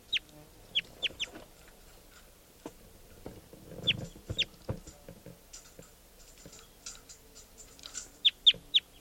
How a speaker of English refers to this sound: There's a wild crossbill here. It looks like an adult, yellow adult male.